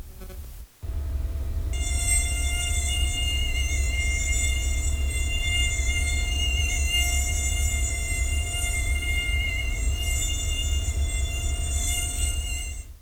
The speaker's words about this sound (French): Eh bien, le moustique tournait dans le sens horaire.